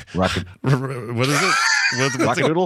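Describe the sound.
A man's voice does a loud, drawn-out imitation of a rooster crow, as the rooster from the animated film Rock-a-Doodle, with a short burst first and then a long, rising and falling call.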